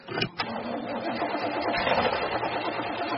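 A car engine cranks steadily, the starter grinding on in a continuous mechanical whir after a couple of sharp clicks at the start, without the engine ever catching.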